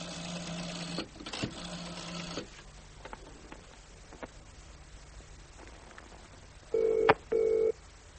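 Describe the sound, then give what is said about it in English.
Whirring dial noises give way to quiet as a call is placed to the Bullion Universal head office in South Moulton Street, then a telephone ringing tone sounds near the end: two short, steady buzzing pulses in quick succession, clear and fairly loud over a faint background hiss. “It's ringing.”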